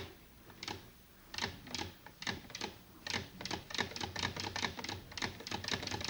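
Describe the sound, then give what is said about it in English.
A sewing machine clatters through a run of stitches as a single-thread chain is sewn on cloth, its sharp mechanical clicks starting slow and spaced, then quickening into a steadier rhythm, with no talking. “You know how to make a single thread chain on a sewing machine.”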